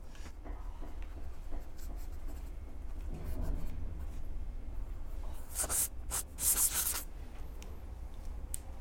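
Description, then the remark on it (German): A pen scratches steadily across paper as an entry is written in a guestbook, with short strokes and a few sharper, brighter scribbles near the end over a low hum. “So, zum Ende gibt es noch den Eintrag in unser Gästebuch der Riesen.”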